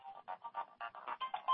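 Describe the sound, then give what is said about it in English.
A phone ringtone plays a quick, bouncy electronic melody of short repeating notes in a steady rhythm, heard alone at a moderate level. “Oh, my God. It's love your ringtone.”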